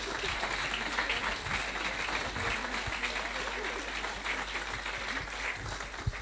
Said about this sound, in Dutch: Nou, grote groep, een groot applaus voor deze mensen van de zang en muziek.